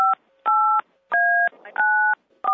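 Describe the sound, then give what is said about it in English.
A quick series of telephone keypad tones, about five beeps each pairing two steady pitches, pressed in an uneven rhythm with brief pauses between, loud, with a faint murmur underneath. “I don't know who's punching the phone”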